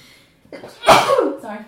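sneeze

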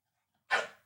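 dog barking

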